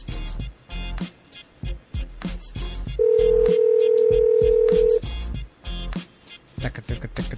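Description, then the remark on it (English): A telephone call is placed and rings through while the caller waits for an answer: one steady, loud ringback tone lasting about two seconds, with people talking before and after it. “If it's ringing, he must have the family plan.”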